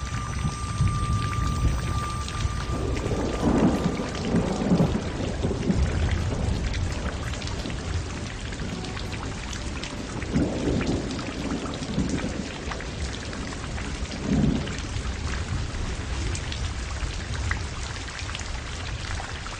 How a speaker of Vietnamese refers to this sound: Bốn phía rất yên tĩnh, nghe giọt mưa đánh vào trên màn trúc, cảm thấy tâm tư biến ảo, vui vẻ không nói nên lời.